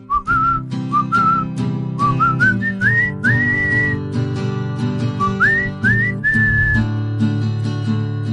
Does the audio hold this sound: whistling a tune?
yes